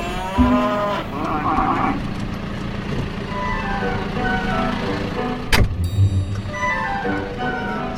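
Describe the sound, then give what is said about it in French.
Cows moo repeatedly in long, droning calls, overlapping one another, with a steady background rumble like an idling vehicle and a sharp knock midway. “Toujours un air un peu bizarre, les vaches, non ?”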